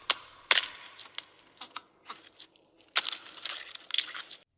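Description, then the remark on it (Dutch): A scene from the film Jurassic World Dominion in which an oviraptor in a cave cracks open an egg to eat its contents: a sharp crunch, followed by scattered small crackles and then a longer burst of dense, brittle crunching and crumbling, with no voices. “Komt een oviraptor een grot binnen, pakt een ei en...”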